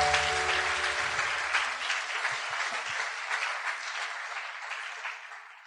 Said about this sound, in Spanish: Dele aplauso al Señor. El Espíritu Santo.